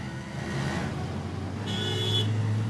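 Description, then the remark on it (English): A three-wheel auto rickshaw's small engine drones steadily while riding in the back in New Delhi, with a low rumble and a brief high whine layered on top, plus faint traffic noise around it. No one speaks. “Riding in the back of a rickshaw isn't a glamorous way to travel. In fact, it feels like being in a bumper car with a lawnmower engine.”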